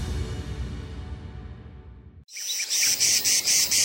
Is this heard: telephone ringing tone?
no